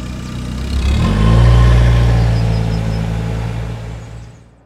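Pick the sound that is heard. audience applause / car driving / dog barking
car driving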